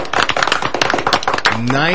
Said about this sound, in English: 70 years ago this year started Matheny Heating and Cooling. Round of applause. Happy 70th birthday.